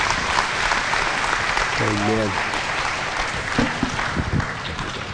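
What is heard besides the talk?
audience applauding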